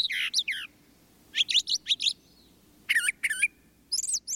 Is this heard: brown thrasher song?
yes